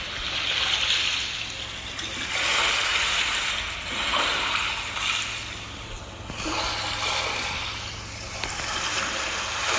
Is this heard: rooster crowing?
no